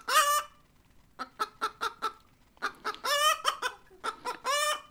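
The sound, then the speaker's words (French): A hen squawks in distress while struggling inside a sack carried off by a fox, loud harmonic cries broken by a rapid run of sharp clucks, then more frantic drawn-out squawks, alone with no talking. “Elle étouffe, elle se débat dans le sac et lance un”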